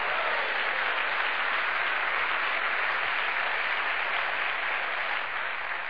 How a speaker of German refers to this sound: Wir beklatschen hier nicht Menschen. Wir klatschen zur Ehre Gottes.